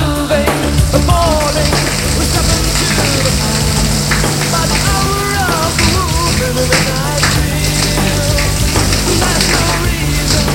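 A man takes a shower in a bathroom, moving to the rhythm of the music; the dense hiss of spraying water runs steadily throughout, with music and a melodic voice layered over the spray.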